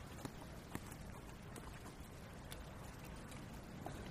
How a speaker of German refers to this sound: Habt ihr das gehört? Ich habe keine Ahnung. Hört ihr eigentlich heute den Regen?